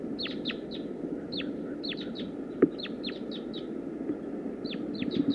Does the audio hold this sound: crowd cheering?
no